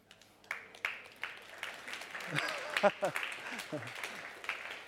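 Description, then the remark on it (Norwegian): A burst of audience applause, many hands clapping in a dense, steady patter that swells and holds for several seconds, with a few voices calling out briefly in the middle. “Det fortjener en applaus, synes jeg.”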